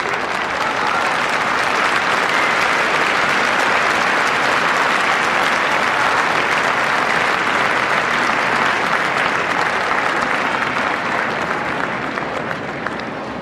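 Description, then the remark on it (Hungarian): A loud, sustained storm of applause from a large crowd for the Pope at the close of a Latin Mass, dense clapping filling the whole stretch evenly without pause, fading slightly only at the very end, with a shout of "Happy Birthday" heard through it. “Kedves hallgatóink, a mai napon a tapsvihar mellett azért kihallatszott még egy hangkiáltás, Happy Birthday, ugye a Szentatyának az elmúlt napokban volt a születésnapja”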